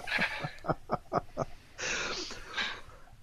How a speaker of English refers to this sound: Was I mouth breathing? Yes, you were. Just a tad. I tend to mouth breathe.